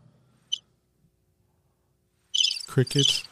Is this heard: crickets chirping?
yes